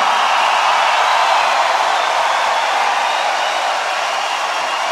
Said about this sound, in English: We brought some friends with us to play with us tonight. Please, a round of applause for the …. Come on!